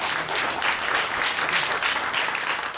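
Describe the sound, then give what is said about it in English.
A crowd claps steadily, a dense, crackling wash of applause that holds at an even, fairly loud level throughout, with no one speaking over it. “Yeah, no, clap.”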